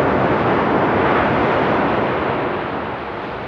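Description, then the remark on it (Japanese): Gentle ocean waves at Isohama Beach in Yamamoto town wash steadily in a broad, hissing roar, with no distinct crashes. The sound stays fairly even and eases slightly toward the end, and no voices are heard. “とても穏やかでゆったりとしたこの波は、いいことも悪いこともすべて受け入れている、そんな音にさえ聞こえます。”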